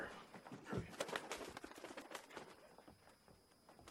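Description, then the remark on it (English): Rapid flapping bursts and soft scuffling, like a pigeon fluttering around, with a faint low cooing underneath, as someone tries to catch a bird; the commotion fades to quieter rustling toward the end. “Come here, birdie, birdie.”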